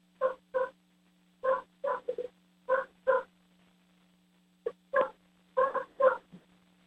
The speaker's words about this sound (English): Well, the dog is still barking away. Hold on, just a second, please. All right, stop that barking.